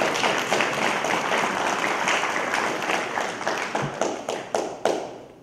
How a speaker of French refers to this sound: Est-ce que quelqu'un peut donner une main d'acclamation pour moi?